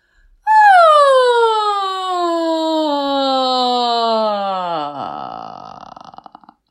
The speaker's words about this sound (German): Gähne nach dieser Übung noch einmal herzhaft und seufze noch einige Male.